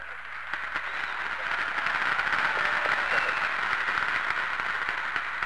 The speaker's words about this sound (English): Cheer for them real hard because they get your appropriations for you.